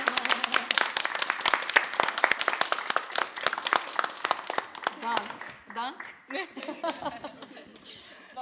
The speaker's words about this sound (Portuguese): Acho que todos vocês merecem um aplauso. E os intérpretes também.